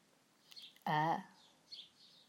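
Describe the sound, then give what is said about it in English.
Faint birds cheeping in a few scattered high chirps, with a short, loud vocal sound from a person breaking in partway through. “Can you hear the birds cheeping?”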